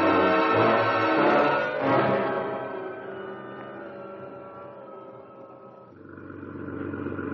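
A heavy truck engine rumbles as the truck drives in off the street through a loading door, loud at first, then settling into a steady idle as it rolls in and slows, with a slight rise again near the end.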